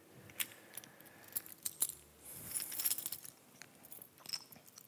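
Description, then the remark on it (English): A bunch of keys jangles in repeated bright, metallic bursts, shaken and clinking together for several seconds with no one speaking. “See, I'm really important because I have a lot of keys.”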